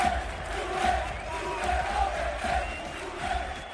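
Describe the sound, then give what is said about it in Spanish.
A large crowd of Sevilla football fans chants together in unison, bidding farewell to the dismissed coach Julen Lopetegui by shouting his name, a dense, steady roar of many voices with rhythmic swells and sustained shouted notes throughout. “Ayer, así le decía adiós la afición del Sevilla.”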